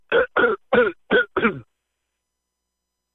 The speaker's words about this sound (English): Hold on, I'm going to clear my throat. Hold on. Let me clear my throat.